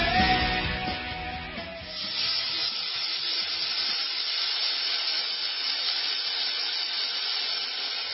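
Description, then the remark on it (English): A steady, loud sizzle like food frying in a hot pan, a dense hiss that runs unbroken for several seconds, with a fuller, lower rumble only at the very start. “Yes, you hear the sound of people frying furiously.”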